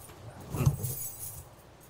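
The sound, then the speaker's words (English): Keys jangle briefly as they change hands, a short metallic clinking burst that quickly settles into quiet room noise. “Where are the keys? Here. You need the keys? Here you go.”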